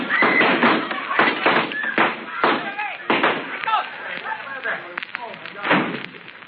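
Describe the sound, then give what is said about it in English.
A saloon shootout: a rapid, irregular volley of sharp, loud gunshots, about eight or nine bangs spread across several seconds, with excited voices and shouting mixed in between the shots. “Them two jacks at the start of the shooting went out the back door.”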